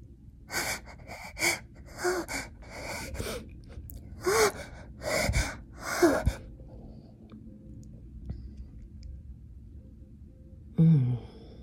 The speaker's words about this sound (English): Her breathing turns into gasps.